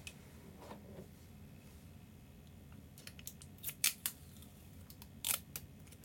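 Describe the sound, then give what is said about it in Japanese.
Cellophane tape being pulled and cut to fix something in place over underwear: a low hum, then from about halfway a cluster of sharp, crackly snaps and short tearing bursts, irregular and fairly quiet. “ちょっとじゃあセロテープで固定します、パンツの上からね。”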